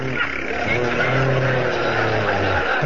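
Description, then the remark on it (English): A voice imitates a motorcycle engine with a loud, continuous buzzing drone that revs and shifts pitch for about three seconds, with no other sounds around it. “That's supposed to be a motorcycle. We forgot to bring a sound man.”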